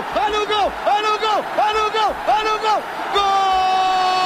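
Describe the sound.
A loud voice shouts a football goal celebration: four quick rising-and-falling calls followed by a long, steady held cry, with faint crowd noise underneath.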